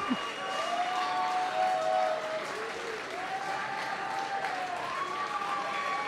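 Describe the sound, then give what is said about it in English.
A concert crowd of about 1,200 people gives a scattered round of applause after a set ends on a low-key song, steady hand-clapping at a moderate level with a few voices and whoops rising over it for about six seconds. “And I think the sporadic applause from the 1,200 people only reflects the sort of pensive mood.”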